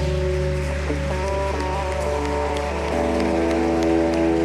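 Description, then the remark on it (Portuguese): An audience applauding Jesus steadily, a dense patter of clapping that holds through the whole stretch, layered over sustained keyboard chords that shift partway through. “Vamos aplaudir Jesus.”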